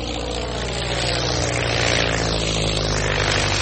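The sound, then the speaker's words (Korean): A propeller airplane engine, a Fokker F7 named Friendship carrying Amelia Earhart, Wilmer Stultz and Louis Gordon, roars steadily and loudly as it takes off from Trepassey Harbour, Newfoundland, Canada, on 17 July 1928; low droning hum building slightly, a sweeping whine rising and falling in pitch; no one speaks. “세 사람은 1928년 7월 17일 캐나다의 뉴펀들랜드에 있는 트레파시 하버공항을 일으켰습니다.”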